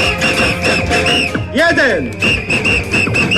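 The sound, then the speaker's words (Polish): A crowd in Poznań, Poland, blows whistles in a dense, shrill chorus, with steady high tones and a rising and falling whistle in the middle, over cheering and voices, marking 1001 days left until the Euro 2012 football championship and starting a countdown clock. “Poznaniacy odgwizdali 1001 dni, które pozostały do Euro 2012. Te gwizdki uruchomiły zegar, który teraz odmierza czas do rozpoczęcia piłkarskich Mistrzostw Europy.”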